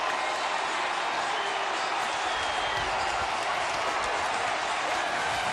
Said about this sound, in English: The Brewers are going to the playoffs in 2008. That is the crowd. How sweet it is. 45,000 fans watching a jumbo fan.